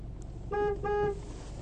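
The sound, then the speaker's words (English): A car horn honks twice in quick succession, two short, loud, blaring toots over a low engine rumble, with no one talking. “You can also honk the horn, too, and see if he, like, actually looks at his phone.”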